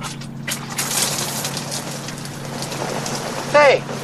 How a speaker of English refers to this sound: Hey, it's raining. You made it rain.